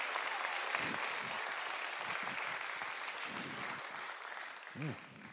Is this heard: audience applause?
yes